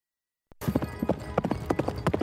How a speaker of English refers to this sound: When you see a black man on a horse going that fast, you just gotta let him fly. You're right. That's a horse horse. That is a horse horse. That's a horse horse.